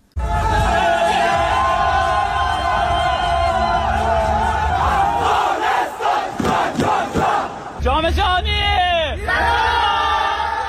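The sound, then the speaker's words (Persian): A large crowd in Afghanistan roars and cheers continuously, celebrating the Afghanistan national futsal team's first-ever World Cup qualification win over Kyrgyzstan, loud and dense, with yells and whoops rising over the din and a few rhythmic chant-like surges toward the end. “باشندگان ولایت‌های مختلف به گونه گروهی با پایکوبی و شور و هیجان از این پیروزی بی پیشینه تیم فوتسال افغانستان استقبال کردند.”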